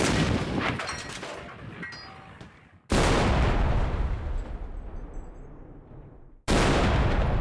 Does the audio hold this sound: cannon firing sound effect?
yes